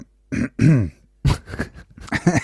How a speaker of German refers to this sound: Das ist jetzt tatsächlich kein verlegenes Räuspern. Ich habe einen Frosch am Hals.